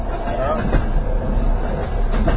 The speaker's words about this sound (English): I like the sound of the train.